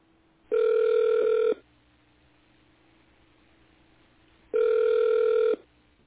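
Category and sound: signal or alarm, telephone ringback tone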